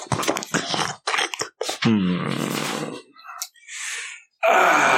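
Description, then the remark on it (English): A voice acts out a character, the jigsaw prince, dropping a sweetmeat into his mouth and chewing it noisily: a burst of wet smacking and crunching mouth sounds mixed with groans and moans of enjoyment, close and fairly loud. “The jigsaw prince is busy just dropping, and this is for the esoteric order of role players, a sweet meat into his mouth and chewing with a sort of...”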